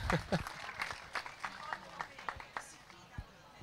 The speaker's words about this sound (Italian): Facciamo un applauso alla nostra arbitro.